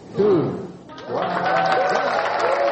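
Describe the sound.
A crowd at the University of Nairobi, Kenya, bursts into loud, sustained applause and cheering after a countdown, as a live broadcast shows Kenya's first cube-shaped satellite launched from the International Space Station; many excited voices shout over steady clapping.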